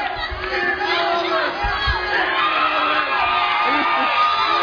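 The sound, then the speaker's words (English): A crowd of children cheers on participants in a timed two-minute game, shouting continuously with overlapping high-pitched whoops and yells forming a loud, steady roar that never drops out. “Hey, you guys got to cheer them on.”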